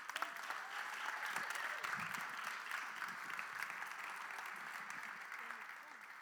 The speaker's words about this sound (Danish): Så vi skal faktisk lige klappe nu.